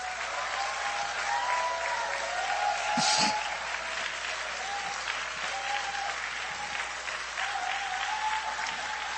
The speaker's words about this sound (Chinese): 我们一起用热烈的掌声来欢迎江牧师。